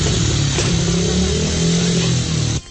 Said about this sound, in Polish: Na zakończenie, już na boisku szkolnym, żużlowcy odpalili przywieziony przez siebie motocykl.